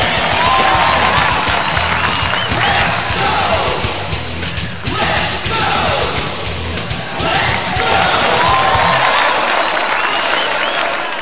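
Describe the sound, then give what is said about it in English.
A huge wrestling crowd roars and cheers nonstop, loud clapping and shouting blending into a dense wall of noise, with occasional rising yells or whistles cutting through, as wrestler Sam Natus climbs the turnbuckles and encourages the frenzied crowd to sing. “Climbing the turnbuckles, Natus looks into this insane crowd, and into the frenzy he encourages the people to sing.”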